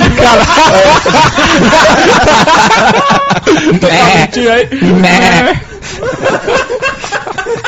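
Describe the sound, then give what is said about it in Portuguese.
A voice imitates a goat's bleat with a loud, quavering, wobbling cry, mixed with laughter and overlapping chatter from several people. “Bovinos, equinos, cabritos.”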